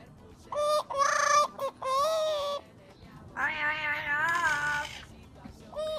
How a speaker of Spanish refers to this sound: Y también con clásicos populares se atreven los loros, clásicos referidos a otra especie de ave.